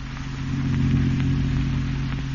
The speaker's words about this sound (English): And an hour later, as you and Douglas drove in his car toward your aunt's house.